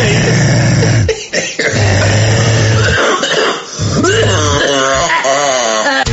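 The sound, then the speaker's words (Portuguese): A loud fit of repeated coughing, with harsh bursts broken by strained, wheezy voiced gasps and hacking over about six seconds. “Tossindo para dar.”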